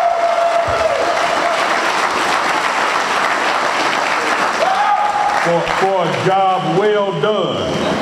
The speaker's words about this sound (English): And so I just want to thank this committee again, and I know we did earlier, but let's give the committee another round of applause.